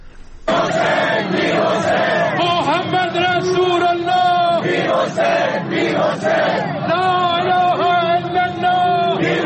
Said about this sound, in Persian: در یک بخش دیگری از زمانی که تابوت آقای هاشمی رفسنجانی داشت عبور میکرد، اون بلنگویی که از اون سمت اون ماشین بود که با صدای لا اله الا الله رو داشت مطرح میکرد، مردم در پاسخ شعاری میدادن که اون هم آماده است میشنویم.